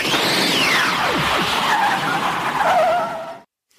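A DeLorean car fitted with a time machine roars and accelerates while its tires squeal in long, wavering skids, loud, for a few seconds before cutting off abruptly into silence.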